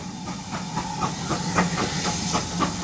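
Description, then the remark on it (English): A train hisses with a steady, loud rush of steam, broken by quick regular pulses like rhythmic chuffing, over a low rumbling hum. No one speaks. “You got to make sure the train's in order.”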